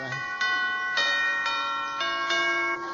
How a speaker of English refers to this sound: Well, ring the bell, then.